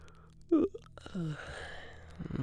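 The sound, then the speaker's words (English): A person does a drawn-out, breathy imitation of a yawn, with a voiced sigh rising and trailing off. “I must yawn for you. Okay. I will yawn.”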